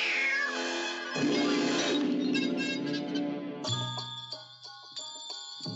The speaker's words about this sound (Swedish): Och här har vi dubbel trubbel. Två sluga katter som sannoliken har ondskan i sig.